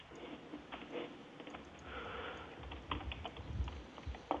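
Quiet, irregular typing on a computer keyboard, a steady patter of soft key clicks over a low background hum, with no one speaking.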